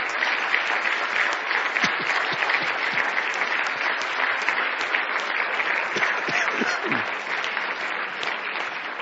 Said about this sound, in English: Give Jesus Christ a hand clap of praise, friends.